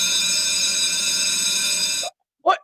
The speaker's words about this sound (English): That's always the bell.